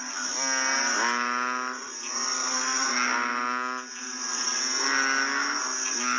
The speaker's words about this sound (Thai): และนี่ก็คือเสียงอึ่งอ่าง